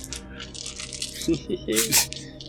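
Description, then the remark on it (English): Dice rolled for perception checks in a tabletop game rattle and clatter across a hard tabletop, a quick burst of sharp clicks that tumbles to a stop, with a brief murmur of voice in the middle. “Forgot to get my dice out.”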